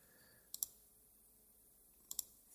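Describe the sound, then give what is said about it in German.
Two quick, crisp double clicks from a computer mouse, with a pause of about a second and a half between the pairs, over faint background hiss. “Nur 37 Klicks später sind wir auf dem Weg zum vorletzten Klick.”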